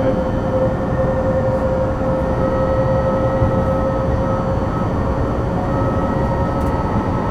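Train windows whistle in a steady, thin tone, riding over the loud, continuous rumble of a train running at 120, near Satolas, in a zone giving access to the high-speed line. No one speaks.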